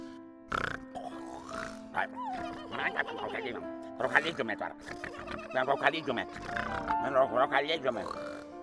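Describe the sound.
A voice imitates snoring with a run of rough, piggish snorts and grunts, rising and falling for several seconds over a faint steady tone in the background.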